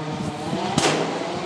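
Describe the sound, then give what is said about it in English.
A Citroen rally car driven by Thierry Neuvel roars past at speed, its engine a loud, strained drone with a sharp rushing burst midway as it passes. “And it's another Citroen.”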